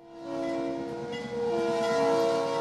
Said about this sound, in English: It's been 7 years since folks have heard a train whistle in Forest City, Iowa. But Iowa Northern locomotives are now again switching rail cars alongside the co-op elevators towering grain silos.